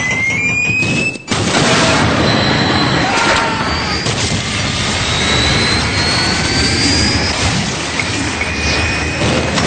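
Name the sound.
jet airplane engine roar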